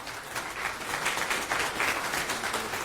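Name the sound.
audience applause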